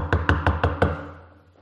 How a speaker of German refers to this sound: Jesus klopft an der Tür.